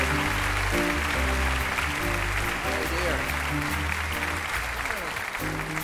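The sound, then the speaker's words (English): An audience applauds steadily for about six seconds as a woman is invited to join the speaker on stage, a dense, loud wash of clapping that never lets up, with low sustained musical tones running underneath. “We need more applause till we get there, you know?”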